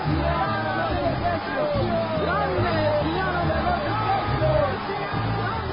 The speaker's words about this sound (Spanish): Pero cuando se dieron cuenta de que era judío, todos a una voz gritaron casi por dos horas: ¡Grande!